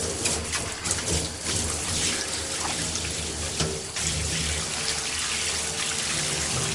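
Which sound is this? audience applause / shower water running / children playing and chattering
shower water running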